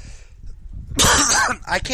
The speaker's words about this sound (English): So, I was pissed that there was no snow. But it was colder than hell. That's why you hear me coughing.